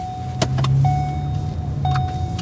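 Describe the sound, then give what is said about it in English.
A car driven by a city transportation engineer rolls along a Fremont street that gets a lot of cut-through traffic, its engine hum steady from inside the cabin, with a thin mechanical whine and a few sharp clicks riding over the rumble. No one speaks. “Noe Veloso, a transportation engineer for the city, drives me out to a street that's gotten a lot of cut-through traffic.”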